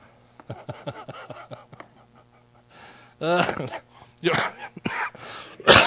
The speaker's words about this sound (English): I don't want to get tickled. I start coughing.